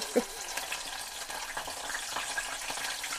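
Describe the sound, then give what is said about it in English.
Capers, the unopened flower buds of the caper bush, frying in hot oil and opening out as they cook: a steady crackling sizzle with scattered pops and spits throughout, moderately loud, with no one speaking. “So that's the capers sizzling away.”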